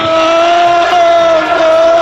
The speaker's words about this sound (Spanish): Ahí escuchamos el grito de los seguidores del Liverpool